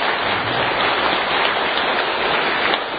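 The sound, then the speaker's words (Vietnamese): A crowd applauds steadily and loudly for the poet Tề Lan, a dense wash of many hands clapping at once that holds evenly without pause or any voices. “Kính thưa quý vị, xin quý vị cho chị Tề Lan một tràng pháo tay nữa thật nồng nhiệt.”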